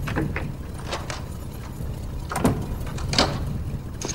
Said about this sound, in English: Sadder than ever, Kevin seems to resign himself to a lonely home alone Christmas when he hears the front door open.